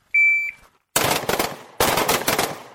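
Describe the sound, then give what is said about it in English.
A short, high electronic start beep sounds alone at a shooting range, then after a brief pause come two loud bursts of rapid gunfire during firearms course qualification target practice, each a quick string of sharp shots, separated by a short gap. “Shooters, listen for the beep!”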